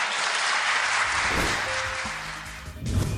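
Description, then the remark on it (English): An audience applauds John Kerry's declaration that the era of the Monroe Doctrine is over, the dense, crackling patter of many hands clapping at once, holding a fairly even loudness for a few seconds with a faint tonal hum underneath. “The relationship, that's worth applauding.”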